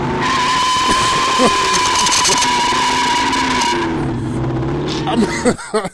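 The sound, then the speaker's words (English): A woman's car engine roars loudly outside, revving hard with a squeal of tires as she drives off fast, the noise cutting out abruptly near the end. “this woman got in her car and jetted. Nigga, it sound like the Fast and the Furious”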